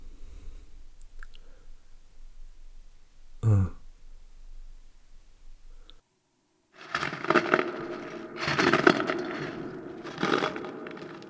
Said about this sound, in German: Haben Sie das auch gehört? Doch, da knirscht doch was. Bei der Tür. Ich guck mal nach.